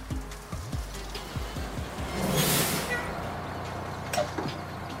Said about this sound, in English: Excuse me, senor. Is this the bus that takes you to the Convent of las Hermanas de la Santa Misericordia de Jesucristo Nuestro Señor y Esperanza Eterna Santificado sea su... Sí, sí, sí. This is the one, okay?